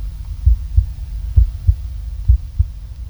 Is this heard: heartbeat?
yes